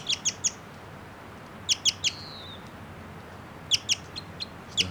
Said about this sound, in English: That bird I think might be a male. And it's giving some song now. It's a song phrase.